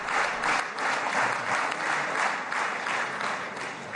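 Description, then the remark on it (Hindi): Loud, sustained applause from Israeli members of parliament during Prime Minister Modi's speech, dense clapping continuing steadily for several seconds with no one speaking. “प्रधानमंत्री के भाषण पर इजरायली सांसदों ने कई अवसरों पर जोरदार तालियां बजाई।”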